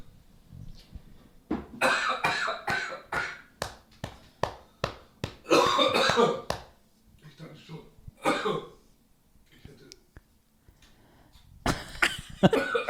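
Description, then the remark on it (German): A long, harsh coughing fit after inhaling radish: rapid strings of loud, raspy coughs with brief gasping breaths between them, easing off into quieter hacks before a final loud burst of coughing. “Die Radieschen eingeatmet.”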